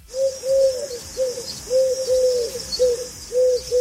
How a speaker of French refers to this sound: Ouais, petit pigeon, quoi.